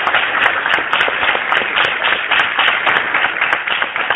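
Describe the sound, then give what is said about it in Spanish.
An audience applauds steadily for a student called up to read a text aloud, a dense, even wash of many hands clapping that holds at the same level for about four seconds, with no voices standing out. “Un aplauso para él.”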